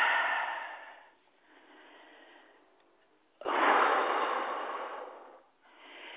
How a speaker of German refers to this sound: Wir atmen ein, wir atmen aus, wir werden weit.